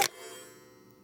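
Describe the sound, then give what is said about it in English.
A clock in a hall chimes once with a sharp metallic strike, its bright ringing tone lingering and slowly fading over about a second. No one speaks. “Damn clock, James mutters as it rings, staring at it.”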